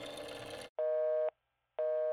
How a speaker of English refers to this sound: Waiting a few minutes, they called again and got the same busy signal. This happened over and over again. Apparently, they had not anticipated that the lines would be tied up by the media and families of the missing children looking for information.